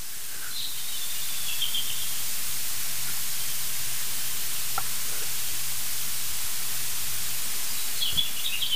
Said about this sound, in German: Wir hören sogar ein Rotkehlchen singen.